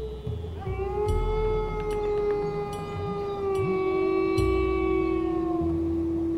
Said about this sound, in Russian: Не успел я об этом подумать, как навстречу мне, откуда ни возьмись, выскочила бездомная собака с пеной и слюной, капающей из пасти. Увидев меня одного посреди пустынной улицы, она запрокинула голову и пронзительно завыла.